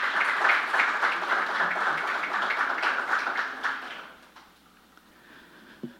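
A crowd applauds with dense, steady clapping for about four seconds, then it fades to a few scattered claps and quiet room noise.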